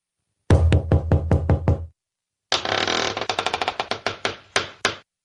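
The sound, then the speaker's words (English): A secret door opening sound effect: a loud burst of rhythmic creaking clunks, a short pause, then a longer run of rapid rattling clicks that gradually spread out and stop. “It's our third guest behind the secret door. Let's open the door.”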